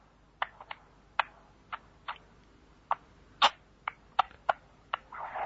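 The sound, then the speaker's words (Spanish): A child, asked how the horse goes, imitates a horse with a dozen sharp tongue clicks in a loose clip-clop rhythm, fairly crisp, ending in a short breathy rush of sound. “¿Y cómo hace el caballo?”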